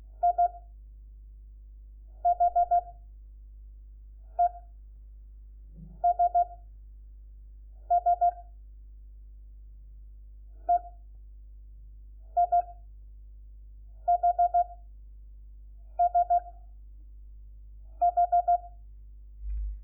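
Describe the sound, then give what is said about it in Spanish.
Morse code practice tones: a steady mid-pitched beep keyed in clear groups of short dots and longer dashes with brief pauses between, over a constant low hum, with no talking. The groups sent are letters such as E, I, H and S, for example EIHSH and IHESS. “Cuando se comete un error, se dan varios puntos seguidos y se empieza.”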